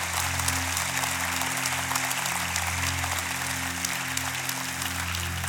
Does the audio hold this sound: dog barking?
no